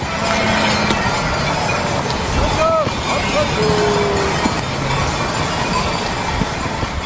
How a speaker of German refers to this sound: Ja, da sind dann mehr als nur ein paar Schafe unterwegs gewesen. Die ja, 700, jede mit einer Glocke, das gibt dann so einen Riesentrick.